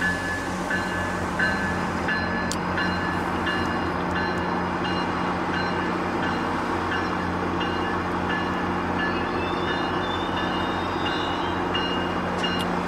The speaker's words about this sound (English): There's another GO train.